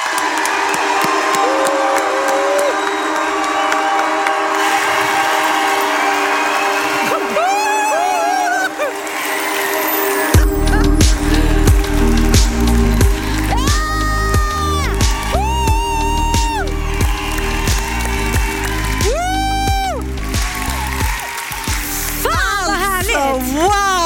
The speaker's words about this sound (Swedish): Ja, varsågoda. Vi ger dem en varm applåd, nu är de här!